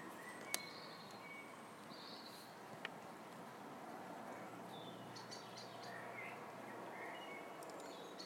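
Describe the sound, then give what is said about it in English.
The first blackbirds of the morning begin to sing at about 6:30 a.m., faint, with scattered fluty phrases and brief chirps drifting over a steady hiss of quiet outdoor ambience. No one speaks. “The first blackbirds are starting to sing.”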